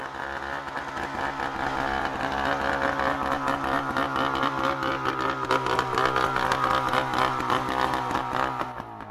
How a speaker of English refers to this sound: You see, when you're in the boat, really all you can hear is the engine.